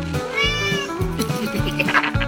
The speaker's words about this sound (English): But listen here. Buy three and get a free keychain that meows in Hungarian.